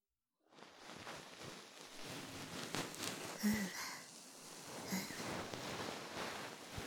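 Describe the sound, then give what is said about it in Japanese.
A cotton puff (bonten) ear pick fluffs inside the ear, making a continuous, soft rustling and swishing that rises and falls gently with no voices present. “それじゃ、最後は梵天でふわふわしてやろう。”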